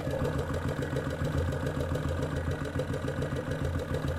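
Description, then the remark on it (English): A steady motorcycle engine idle thrums, a continuous low, pulsing rumble with a faint mechanical chatter and no voices, heard at the airbox, the intake that draws in air and filters it, with the engine sound resounding up through the carburetors into the airbox. “I don't know if you can hear the air, but you can definitely hear the sound of the engine resounding all the way up through the carburetors into the airbox.”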